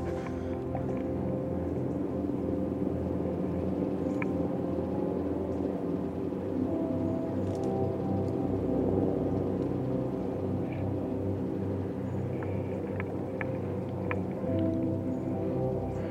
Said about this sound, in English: Oh, listen to that chopper.